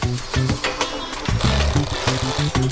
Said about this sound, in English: I hate this drill, man. This thing's got like no balls.